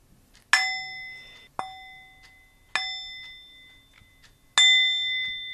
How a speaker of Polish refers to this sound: To jest taka misa grająca, z tym, że no ja na niej nie potrafię zagrać, to potrafi moja wnuczka.